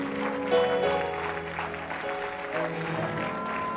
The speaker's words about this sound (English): Go ahead and give him a hand clap of praise for what he's going to be doing there.